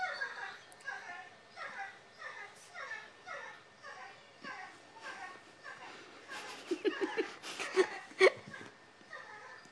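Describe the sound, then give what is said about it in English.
A dog whimpers in a steady series of short, high, whiny cries, growing louder and more urgent with sharper bursts toward the end. “Food? Drink. Water. Food. A biscuit. Or a hug. Or he wants to go out.”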